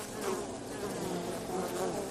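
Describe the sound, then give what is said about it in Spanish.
A steady, continuous buzzing of bees, a dense droning hum that holds at an even level throughout, with no voices. “Pues sí, o nos ponemos las pilas y ayudamos a estas que estás escuchando, o vamos directos a la extinción humana, como advertía Albert Einstein.”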